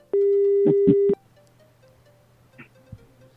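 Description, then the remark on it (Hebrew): A steady telephone dial tone hums for about a second as a call is placed to a publicist's number, with a few sharp clicks over it, then cuts off abruptly, leaving quiet background noise and a couple of faint taps. “יש לנו מספר טלפון של יחצן, בוא ננסה להבין אם הוא קשור.”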